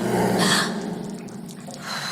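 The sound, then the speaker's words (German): A harsh, guttural creature scream bursts out loudly, growling and raspy with a low rumbling undertone, then trails off into rough, snarling breaths before swelling slightly again. “Jetzt packt es ihn dann doch irgendwie, aber die Schatzfinder-Mentalität kommt da aus ihm raus und auf einmal hört man so einen animalischen Schrei.”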